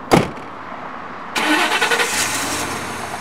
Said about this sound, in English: Now, to meet teachers where they are, the supply truck has gone on the road in an old plumber's truck. We had a group of art teachers who visit the swap frequently. They designed it and painted it. It's pretty bright.